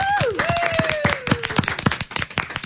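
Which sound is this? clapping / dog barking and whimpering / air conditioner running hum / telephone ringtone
clapping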